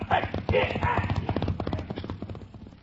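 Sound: horses galloping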